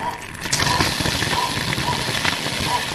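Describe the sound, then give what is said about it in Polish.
A household water boiler, heated by burning fuel in a stove for hot water, gurgles with a steady, rumbling, bubbling roar that runs unbroken for the full three seconds, with brief faint tones and a murmur of voices beneath. “Bulgocze boiler.”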